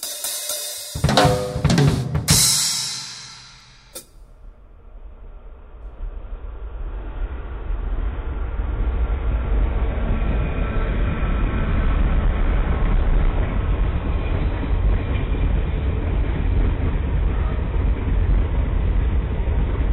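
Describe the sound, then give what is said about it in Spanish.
A train rumbles along railway tracks, starting with a few sharp, loud metallic bursts, then settling into a steady, heavy roar that builds and holds. No one speaks. “Los trenes de la India son máquinas de matar elefantes.”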